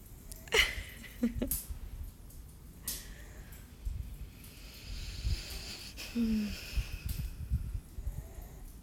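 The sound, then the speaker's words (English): Irregular snoring with snorty, wheezy breaths and a few sharp nasal sniffs, moderately quiet, with no talking. “I love how you snore.”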